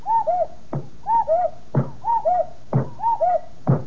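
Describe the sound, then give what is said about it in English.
A cuckoo clock sitting on top of a radio, turned back to 4 o'clock, strikes four times: each strike is a hollow two-note call, higher then lower, followed by a sharp wooden clack, repeating at a steady pace with no talking. “On top of radio, light behind head, is cuckoo clock. Long Pan turn clock back to 4 o'clock. You watch.”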